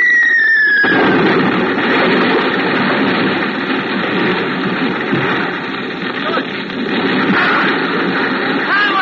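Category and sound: sound effect, bombs exploding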